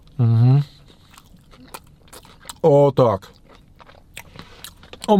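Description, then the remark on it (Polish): Someone takes another bite of delivered food with a light mint taste and chews, with soft crunchy clicks scattered between brief murmured vocalizations and a short spoken remark. “No więc słuchajcie, nie, poczekajcie, jeszcze jeden gryz.”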